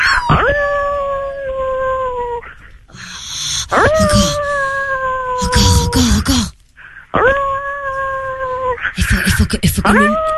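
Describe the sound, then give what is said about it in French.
Two voices imitate howling wolves in the street, letting out long sustained wails that hold a steady pitch before breaking off, repeated about three times with brief noisy gaps between. “Oh, c'est pas vrai, tu vas faire le loup en pleine rue?”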